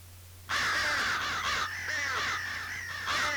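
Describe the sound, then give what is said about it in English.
Several crows caw loudly in a rapid, overlapping series of harsh calls, continuing without pause for a few seconds over a faint low hum. “the sound of those crows segues me into looking around the conference this past weekend.”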